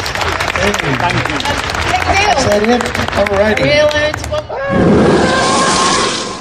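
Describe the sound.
A man speaks energetically for a few seconds, then a crowd bursts into loud, dense applause that holds steady for about two seconds as the clapping fills the room.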